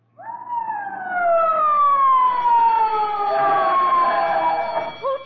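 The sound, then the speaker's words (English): A fire alarm siren, set off from a fire alarm box by breaking its glass as a false alarm, wails loudly on its own, one long tone gliding slowly downward in pitch before starting to climb again at the very end. “They have to arrest you if you turn in a false alarm.”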